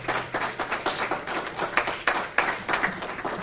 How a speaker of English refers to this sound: Just give a clap to her.